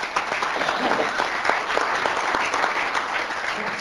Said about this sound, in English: So Yeah, and if you can give a round of applause, because we are blessed.